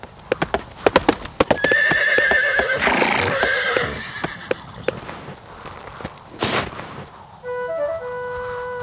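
Several horses' hooves clatter in quick, uneven clip-clop beats while a loud, high neigh rings out, followed by more hoofbeats and a second whinny near the end. No one speaks.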